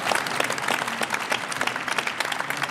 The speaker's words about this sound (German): Herzlich willkommen, Susanne Schröter, bitte um einen kleinen Applaus. Kann auch ein großer sein.